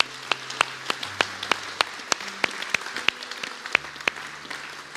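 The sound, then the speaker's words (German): Audience applause: a scattering of sharp, uneven claps rather than a dense roar, carrying on steadily for about five seconds over a soft, sustained low tone. “Lass mal Applaus geben.”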